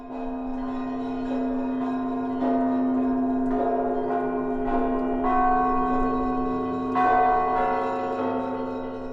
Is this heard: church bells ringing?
yes